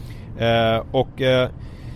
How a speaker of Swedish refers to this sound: Vad hände där? Larmar. Jag tyckte inte jag körde i mitten av körfältet. Ja, körfältsvarnare.